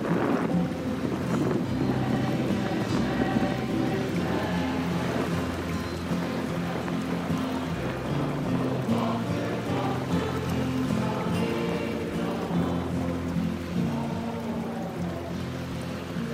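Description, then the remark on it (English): A loud, continuous hurricane roar of pouring rain and gusting wind fills the whole stretch, with deep rumbling, droning tones running steadily underneath and no voices. “Just closed your eyes. Hear the hurricane, see the water”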